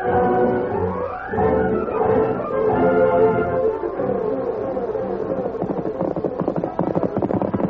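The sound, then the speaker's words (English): A white horse's galloping hooves beat out a fast, steady rhythm, growing more prominent toward the end, mixed with a dense, sustained layer of music or voices. “You saw that white horse travel.”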